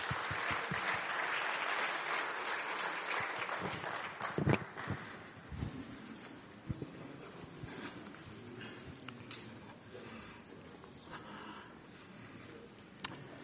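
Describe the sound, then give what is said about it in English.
An audience breaks into loud, dense applause as preacher Bob Bryant is invited up to speak; it holds for a few seconds, then thins into softer, scattered claps that trail off without dying away entirely. “But will you give him a round of applause as we invite Bob Bryant up here?”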